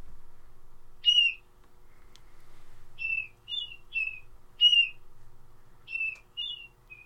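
A bird gives a series of harsh, gull-like keer calls, seven or so short descending notes spaced irregularly, standing out clearly over a faint low background hum with no talking.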